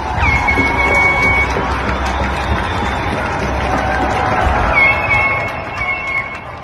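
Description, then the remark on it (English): A steady roar of people in Vancouver who have stepped out of their homes cheering for healthcare workers, dense and loud throughout, with high shrill whistles cutting in near the start and again toward the end. “People across the world are stepping out of their homes at the same time each day and cheering for healthcare workers.”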